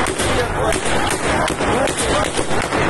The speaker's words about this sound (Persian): معترضان مقابل کلانتری 16 زاهدان جمع شدند و اعتراض کردند. معترضان سنگ زدند، نیروهای پلیس گلوله.